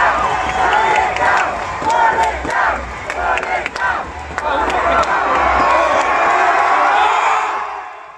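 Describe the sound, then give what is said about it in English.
A large protest crowd in Bristol, UK, roars and cheers loudly as protesters pull the statue of 17th-century slave trader Edward Colston from its plinth, with scattered sharp claps and whoops breaking through in the first few seconds, the dense cheering sustained throughout before tapering off at the end. “The statue of Edward Colston, which has been in Bristol's city centre since 1895, was pulled from its plinth while protesters clapped and cheered.”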